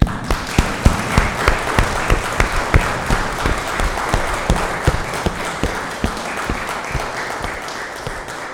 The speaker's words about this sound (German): Und jetzt ist unbedingt dran, den Chören oder dem Chorprojekt für diese wunderbare Musik mit Applaus zu danken. Das wäre im Abendmahl irgendwie seltsam gewesen. Sie haben es aber sehr verdient, es war wunderbar.